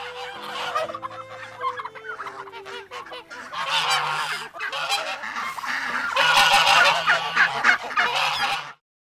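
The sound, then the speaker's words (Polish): A crowd of geese honks loudly and almost nonstop on a farm, with overlapping calls from other poultry (chickens, ducks, turkeys and guinea fowl) mixed in, and no one speaking. “Kury, kaczki, gęsi, indyki, perliczki.”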